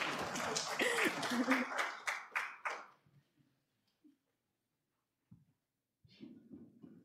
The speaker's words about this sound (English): Now, can we give our volunteers a round of applause? Thanks.